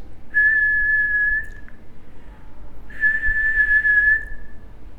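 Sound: person whistling a tune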